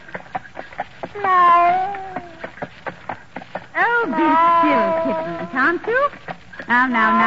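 cat meowing

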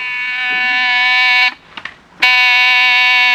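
door buzzer

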